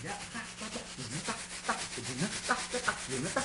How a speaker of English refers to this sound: And I use plastic bags to make music. I'll show you how to do it. Like, say, for example, if I may play a Brazilian rhythm.